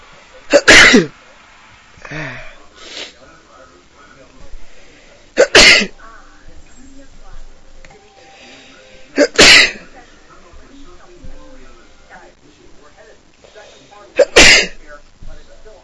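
Four loud sneezes from a person with a cold burst out a few seconds apart, with quieter breathing and sniffling in the pauses between them.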